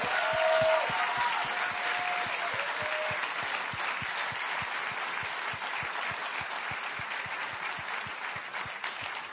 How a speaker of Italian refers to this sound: Und ich lade euch jetzt ein, mit einem ganz, ganz kräftigen, mit eurem besten Applaus auf der Bühne willkommen zu heißen,